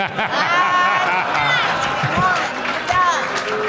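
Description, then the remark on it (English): An audience boos a joke, many voices booing loudly and continuously in a dense wash of overlapping drawn-out jeers that swells and holds for several seconds. “Stop booing it, my friend!”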